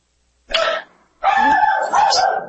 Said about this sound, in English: Oh, you have dogs. And another part of the house with the door shut, and you can still hear them. That's terrible.